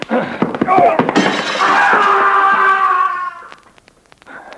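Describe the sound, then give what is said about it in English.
A few scuffling thumps lead into a loud crash of shattering window glass as a man is knocked through a window, while a drawn-out voiced cry rings over it. Scattered faint tinkles of falling fragments follow as it fades. “you knocked him through the window.”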